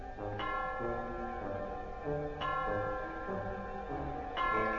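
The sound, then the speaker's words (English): A clock bell strikes three o'clock, three times, each resonant chime spaced about two seconds apart, its ringing overtones sustaining and overlapping between strokes. No voices are heard. “Three o'clock.”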